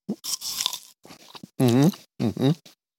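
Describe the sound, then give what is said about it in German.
A bite into a glossy, crisp fruit with a fairly hard skin gives a slightly crunchy snap followed by a few moist chewing crunches, then a person makes short voiced sounds. “Dann werden wir jetzt reinbeißen und gleichzeitig werden wir jetzt hören, ist er knackig.”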